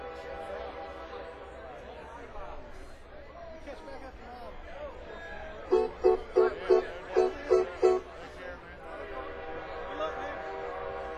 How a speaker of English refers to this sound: Hey, that train signal is a sign, isn't it? It's a sign.